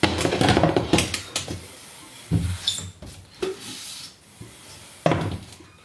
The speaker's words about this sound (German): Na, ich höre doch da schon wieder eine Tür. Ja, ich höre eine Tür, man hat es schön quietschen hören und jetzt hier ein bisschen raschelt und verblitzt dich, das sind die Eisbeine. Ja, die Tür quietscht. Und zwar quietscht die, weil kein Öl dran ist.